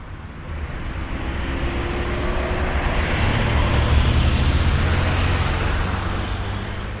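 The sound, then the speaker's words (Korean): Busy Dublin city street traffic with the deep engine drone of double-decker buses on a narrow road, red and yellow tourist buses and dark blue and yellow city buses, a continuous rushing rumble that swells toward the middle and eases off, with no voices. “원색으로 치장한 더블린의 2층 버스들은 좁은 도로를 잘도 누비고 다닌다.”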